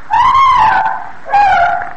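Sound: woman screaming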